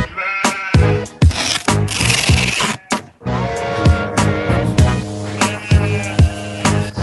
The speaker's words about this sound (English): See, there are the sheep